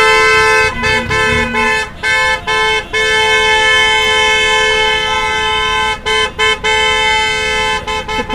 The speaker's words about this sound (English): Plenty of people are trying to do their shopping, but it's pretty gridlocked in front of me at the minute. I can count about, let me see, 1, 2, 3, 4, 5, about 10 tractors. Quite a few.